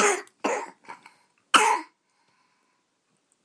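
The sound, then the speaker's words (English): A few short, harsh coughs in a quick cluster, followed by one louder, explosive burst like a sneeze, then quiet. “God bless you. You okay?”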